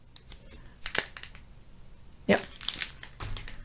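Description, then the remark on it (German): Traditional Japanese washi paper being handled: crisp crinkling and rustling in a few short, uneven bursts, with quieter shuffling in between, as a washi paper envelope with a cute kitten on it is turned and folded. “Das sind so kleine, also es ist so Washi, also so ihr traditionelles japanisches Papier. Das ist, glaube ich, ein Fütter, also ein Kuvert, ein Umschlag.”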